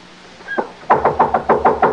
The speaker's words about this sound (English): Anybody here? I'm knocking down the door.